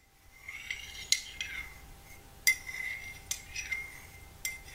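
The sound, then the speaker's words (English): A metal spoon stirs in a china teacup, striking the rim in a slow, steady rhythm of bright, ringing clinks with softer scrapes between them. No one speaks. “So anybody who's seen Get Out knows that Jordan Peele freaked us all out with teacups in that film.”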